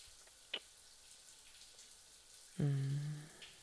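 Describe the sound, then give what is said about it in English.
A shower runs with a steady hiss of spraying water, broken by a brief tap early on and a short, loud squeaky thunk near the end. No one speaks. “Just here, let me turn off the shower.”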